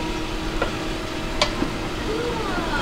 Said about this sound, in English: Just 5 minutes to freeze a gallon and a half of that stuff. Yeah, it's a really powerful machine. I love it.